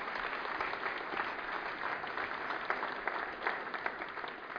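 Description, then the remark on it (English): Steady applause from an audience thanking the table leaders fills the whole stretch, a dense wash of many hands clapping at once with no pauses, evenly sustained. “So let's all of us who are participants but not table leaders, let's give those guys a round of applause.”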